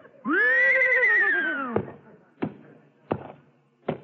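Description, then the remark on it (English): A trick horse, asked how much 2 and 2 is, answers with a loud, drawn-out whinny that rises and then falls in pitch, followed by four sharp, evenly spaced taps like a hoof striking the floor. “Okay, tell me, horsey, how much is 2 and 2?”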